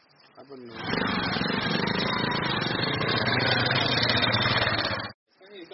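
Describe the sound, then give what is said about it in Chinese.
A motorcycle engine idles with a steady, rumbling drone that swells in after a brief moment, holds for about four seconds, then cuts off abruptly, as a volunteer anti-poaching patrol stops its motorcycles at the boundary of a reserve. “他们在保护区的边界停下摩托车，徒步搜索了一夜，直到第二天。”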